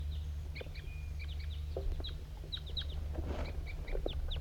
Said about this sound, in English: Here comes a wild crossbill.